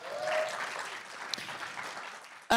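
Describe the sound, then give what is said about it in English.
Thin, scattered applause from a small audience at South by Southwest, a light patter of claps that stays fairly even before a sudden louder burst of sound cuts in at the very end. “I do love the splattering, as I said, of the few.”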